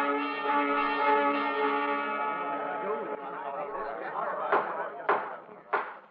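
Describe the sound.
Milling crowds of the outlaw faction on the day of Wyatt Earp's murder trial murmur with many overlapping indistinct voices, starting beneath a ringing bell tone that fades. Three sharp knocks cut through the chatter near the end.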